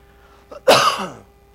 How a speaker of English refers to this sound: I've been coughing for 2 months. Just have a little tickle in my throat. It seems like if I could just clear my throat one more time, everything would be fine.